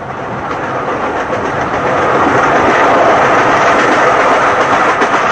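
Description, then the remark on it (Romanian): A fast train going 200 kilometres per hour rushes along the rails with a loud, steady roar that swells after a couple of seconds and holds, a faint rhythmic clatter running beneath the broad whoosh. “Ba, mai inventează trenuri care merg cu 200 de kilometri la oră.”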